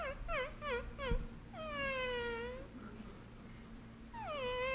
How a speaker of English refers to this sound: The saddest sound in the world to me is a dog's whimper.